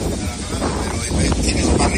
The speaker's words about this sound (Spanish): Eso que suena, el viento, rachas que han llegado a alcanzar los 130 kilómetros por hora, son la peor pesadilla de los bomberos que están trabajando ahí en la zona.